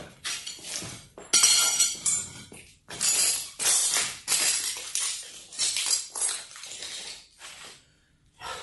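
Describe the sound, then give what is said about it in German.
Rummaging as a squeezed toothpaste tube is retrieved from a dirty glass beside a frayed toothbrush in a wash niche, the glass clinking and clattering against objects in a series of bright, irregular bursts over several seconds with no one speaking. “Und hier ist sie, die Tube. Ein bisschen zerdrückt in einem schmutzigen Glas neben einer zerfaserten Zahnbürste.”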